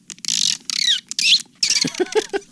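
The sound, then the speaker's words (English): A human voice imitates monkey chatter, performed to picture: rapid, shrill squeaks and screeches in quick bursts, ending in a run of rising, looping chirps. Loud and with no talking. “Okay, how does a human make these sounds?”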